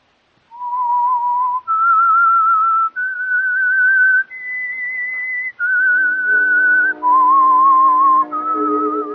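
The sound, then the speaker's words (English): The whistled theme melody of the radio show The Whistler: long, clear held notes that climb step by step, then fall back, with a soft lower accompaniment joining under the second half. No one speaks. “Now, back to the Whistler.”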